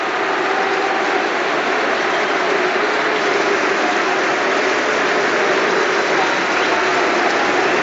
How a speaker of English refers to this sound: Jack Grealish is standing over the ball in the centre circle, and there's the taking of the knee. Well, there are boos, but immediately applause, you can hear it.